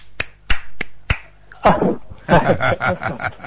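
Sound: hand clapping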